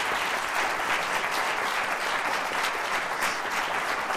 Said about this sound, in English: So let's give an applause